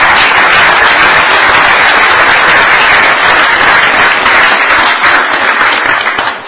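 An audience applauds steadily for several seconds, a dense, loud wash of many hands clapping at once that tapers slightly at the end.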